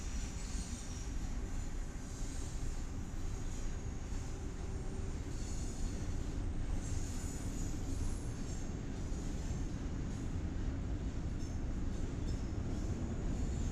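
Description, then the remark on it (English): A freight train rumbles past steadily, a dense, continuous clatter of heavy cars with faint metallic squeals riding above, holding an even loudness throughout with no voices. “Freight train, I guess.”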